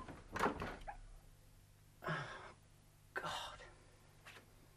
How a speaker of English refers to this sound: Holmes, I'm going to open this door.